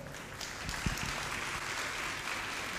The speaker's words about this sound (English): Could we give her a round of applause?